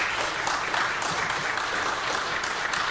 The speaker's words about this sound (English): When they ask, why do you praise God? Why do you clap so much? You tell them, because he inhabits the praise of his.